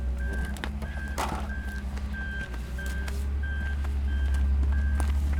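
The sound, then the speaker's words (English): A steady series of high, evenly spaced reversing beeps sounds over the deep, rumbling drone of a large truck engine idling, with occasional clanks and knocks. “Getting a look at that truck.”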